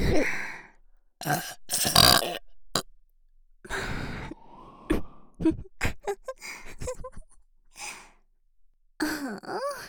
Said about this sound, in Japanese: ほーら、ゲップくる。激しく 力で準備して。 くる くるくる。